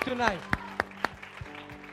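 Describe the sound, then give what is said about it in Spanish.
A few sharp, evenly spaced claps ring out in a steady rhythm as an audience starts to applaud for the Lord, with a voice speaking underneath. “Si le va a dar un aplauso al Señor, déselo fuerte.”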